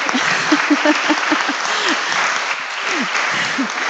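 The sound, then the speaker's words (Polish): An audience claps steadily for several seconds, a dense, even patter of many hands with a few faint voices and cheers rising underneath. “Może brawa, kochani, co?”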